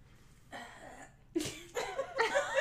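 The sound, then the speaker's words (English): A burst of harsh, sputtering coughs comes in several quick bouts, fairly loud, as someone chokes and hacks after accidentally inhaling something, with no talking in between. “I just inhaled it somehow and I died.”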